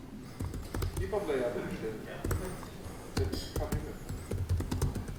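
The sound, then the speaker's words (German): Rapid clicking of keys on a computer keyboard as an SSH command to connect to a remote server is typed, uneven in rhythm, with a voice murmuring faintly underneath. “Also das ist so der klassische Befehl, den wir eingeben.”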